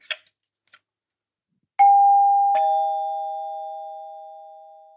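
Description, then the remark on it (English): A couple of faint mechanical clicks, then an electric doorbell chime rings a clear two-note ding-dong, the lower second tone ringing out and slowly fading. No voices. “And then out of the war, in the 50s, they realized that you could make reasonably pleasant electric sounds without actually using those long, cumbersome bells.”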